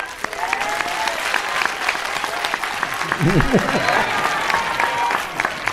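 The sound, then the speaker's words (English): An audience claps steadily and densely for about six seconds, a continuous loud patter of many hands, with a brief voice calling out partway through. “You hear, he's here, and you clap again.”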